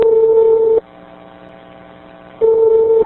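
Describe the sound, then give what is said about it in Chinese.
Two loud, steady telephone tones before a call, each under a second long, with a quieter stretch of faint line hum between them. No one speaks. They come before a recorded investigative phone call to the liver transplant centre of Zhongshan Hospital in Shanghai, China. “我们再来听另外一段对上海中山医院的调查电话录音。”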